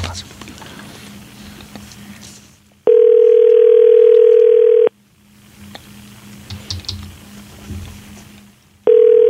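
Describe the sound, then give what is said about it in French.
A telephone tone sounds while a call is placed: a loud, steady mid-pitched hum lasting about two seconds, then a pause with faint clicking, then the tone starts again. “OK, on appelle.”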